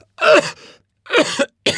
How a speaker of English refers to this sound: I have a really bad cough.